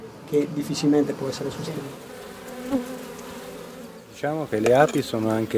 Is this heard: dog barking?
no